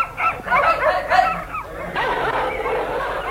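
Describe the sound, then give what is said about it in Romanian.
Several sled dogs bark and yelp at once in a busy, overlapping chorus that keeps going without a break, moderately loud, with high whiny yips mixed in. “Uite schimoșii cu sănii și câini.”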